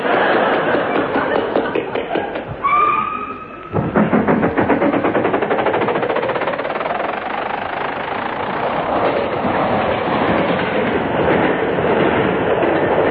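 A train rolls along steadily, its wheels clattering over the rail joints in a rapid rhythmic clack under a loud, constant rumble, with a brief high squeal early on.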